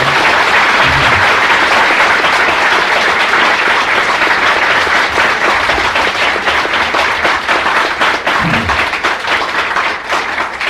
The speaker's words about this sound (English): And give him a big round of applause.